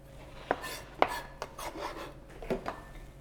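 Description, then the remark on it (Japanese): A knife minces an onion, ends included, on a cutting board: sharp strikes at irregular moments, a few crisp chops with soft scraping and rubbing between them, moderately loud with no talking. “玉ねぎはみじん切りに、この端っこの部分とかももうみじん切りの時はそんなに気にしないんで捨てなくて切っていっちゃってください。”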